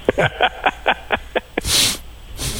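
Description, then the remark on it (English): A quick, steady run of about eight short nasal sniffs, followed by a longer, hissing breath of air and another breathy puff at the end. No speech. “I'm sniffing.”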